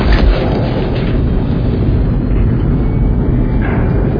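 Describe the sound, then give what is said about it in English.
Heavy naval ship engines start up on the captain's order to make revolutions for 20 knots. A deep, loud, continuous rumble holds steady throughout, with faint rising whines now and then and no voices. “Commence engine startup.”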